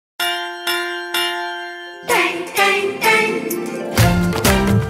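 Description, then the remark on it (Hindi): A school bell clangs three times in quick, evenly spaced strikes, ringing out clearly before the bright, busy musical backing of a children's song about school kicks in and carries on loudly. “सुनो घंटी बजी स्कूल की, चलो स्कूल तुमको पुकारे।”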